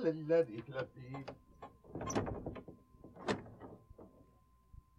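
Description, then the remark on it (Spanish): A voice speaks briefly, then a door is opened for arriving visitors with a rattle of the latch and a couple of clunky knocks of wood and metal, moderately loud. “Corre, ve a abrirles la puerta.”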